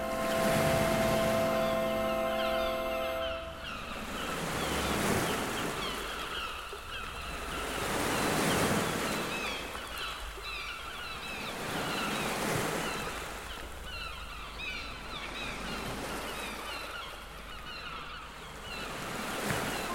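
Sea waves break on a beach in steady surges every few seconds, with honking gull calls scattered throughout and a brief low horn-like tone at the start; a taped seaside soundscape played within an orchestral piece.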